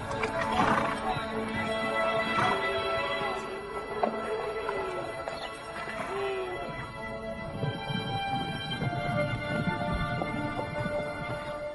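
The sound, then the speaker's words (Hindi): A horse whinnies and snorts amid a dense, steady layer of hoof clatter and animal noise, fairly loud throughout, with no clear pauses. “चल घोड़े चल चल, अरे चलता क्यों नहीं, चल।”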